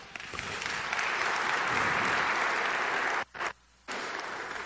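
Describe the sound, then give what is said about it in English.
An audience applauds Jesus, introduced by God in the day's gospel of his baptism, in a steady, dense wash of clapping that swells and holds for several seconds, breaks off abruptly into a brief silence, then picks up again. “We should all clap.”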